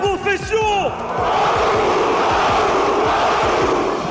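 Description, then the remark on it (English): Thousands of fans at an esports event roar from the stands, opening with a few loud shouted cheers before swelling into a dense, steady wall of cheering that stays loud throughout. “Thousands of fans cheering from the stands.”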